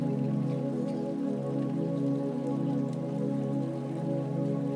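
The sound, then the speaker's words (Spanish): Steady rain falls continuously, a soft, even patter of drops blending into a constant wash with no pauses or voices, at a gentle level. “Y con el sonido de esta lluvia, regresa poco a poco a tu respiración más consciente.”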